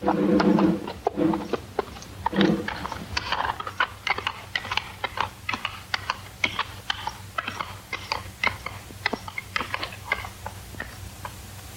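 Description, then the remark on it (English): Horse hooves clop on stone in a steady, even rhythm, sharp hollow knocks repeating a couple of times per second, with a brief low rumble near the start and no talking; Boccaccio rides a horse through a deserted city. “Riding proudly, the handsome Boccaccio heads further into the deserted city.”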